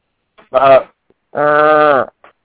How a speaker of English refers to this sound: That's not a groan. That's not a door creaking. No, that's a cow. Yeah, that's Bessie.